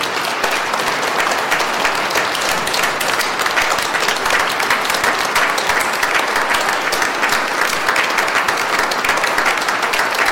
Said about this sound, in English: Why aren't you standing up and cheering and clapping? Why aren't you? Stand up, clap, cheer.